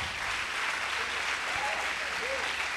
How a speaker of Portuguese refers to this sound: Aleluia, aplauda Jesus.